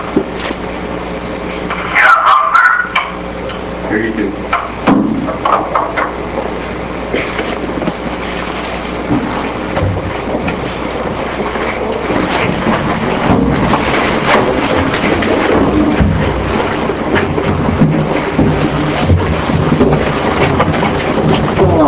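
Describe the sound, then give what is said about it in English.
A mine shaft cage, the same cage the miners used to ride, being lowered: steady mechanical rumbling with metallic clanks and rattles, a brief squeal of metal early on, growing slightly louder and more clattering toward the end. “So they're bringing this one down for me. This is the same cage that the miners used to ride.”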